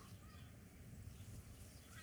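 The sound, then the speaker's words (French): Yellow-legged gulls calling faintly, their cries rising over a steady low rumble like an engine or water, with no voices present. “Tiens, des goélands.”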